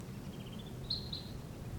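A wild bird up in a treetop gives a faint answering call: a soft, thin, high wavering note followed by two brief sharper chirps, heard over a steady low rumble with no talking.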